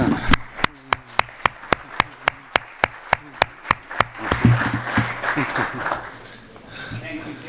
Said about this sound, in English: I just want to ask for applause for our moderator.